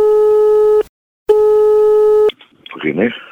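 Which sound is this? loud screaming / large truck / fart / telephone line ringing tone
telephone line ringing tone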